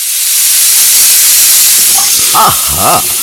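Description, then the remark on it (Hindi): A pressure cooker cooking dal vents steam in a loud, continuous hiss that fills the whole moment, with a couple of brief voice-like sounds rising over it near the end. “Mummy दाल बना रही है। कुकर में नहीं, हमें पूछना है कि मम्मी कढ़ाई में क्या बना रही है।”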